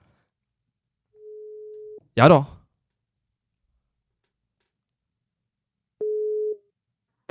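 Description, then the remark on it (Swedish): A steady telephone ringback tone sounds twice while a phone call is being placed, about a second then half a second long, separated by a long silence; a man briefly speaks between the tones. “Ring. Ska vi se ifall det tutar i våra öron.”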